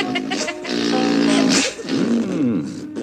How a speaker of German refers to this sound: Jetzt fängt er schon wieder an zu furzen.